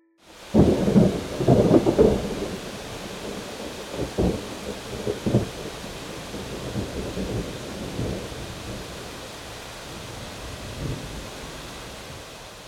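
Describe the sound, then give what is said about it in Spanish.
A heavy downpour hisses steadily while deep rumbles of thunder roll in, loudest near the start and fading into a continuous wash of rain with further low grumbles. No one speaks. “El sonido sorpresa de hoy fue el de una lluvia muy fuerte, como una tormenta.”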